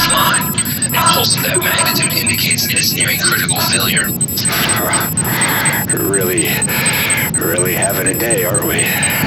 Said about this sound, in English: Shut off these alarms.